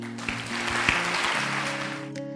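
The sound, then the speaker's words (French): An audience claps steadily in a dense, even patter of applause lasting about two seconds, with a sustained musical tone underneath, then the clapping stops abruptly. “Vraiment, je pense qu'on peut applaudir.”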